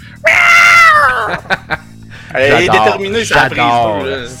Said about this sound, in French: J'adore quand tu miaules à mes oreilles.